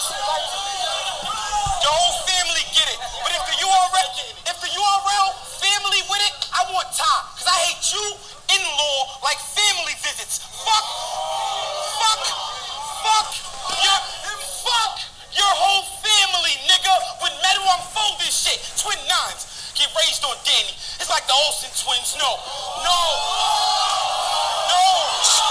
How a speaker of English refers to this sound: That shit was corny, man. Stop cheering for that shit. This shit is pissing me off. Shit is trash. They're cheering for this trash shit.